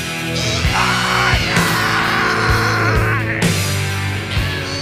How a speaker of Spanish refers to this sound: Ahora viene el grito. Viene. Viene el grito. Otro grito, otro.